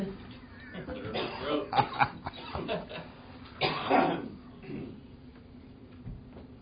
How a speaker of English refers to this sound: What? What are you coughing at?